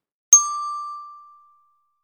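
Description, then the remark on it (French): A single bright bell chime strikes once and rings out cleanly, its tone fading away over about a second and a half, with no voices around it; it is the cue in a French reading lesson to reread the sentences. “Au son du timbre, relis les phrases après moi.”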